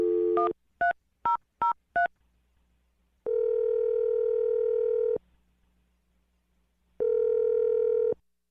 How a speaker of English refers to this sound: All right, let's dial the phone number. Here we go.